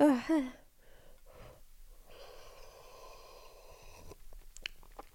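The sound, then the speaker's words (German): A short voiced gasp or laugh, then a drawn-out airy slurp of someone sipping freshly made tea that is still very hot, fairly quiet, ending with a few small mouth clicks. “Oh Gott, ich habe mir einen Tee gemacht. Er ist so heiß noch.”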